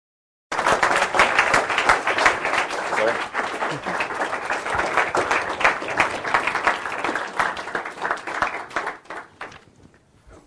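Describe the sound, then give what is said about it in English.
An evening audience, asked to rise, applauds speaker Larry Sanger, co-founder of Wikipedia, steadily for about ten seconds: a dense, even wash of many hands clapping that holds strong before thinning and fading out at the end. “Without any further ado, please rise and join me in applauding our speaker, Larry Sanger.”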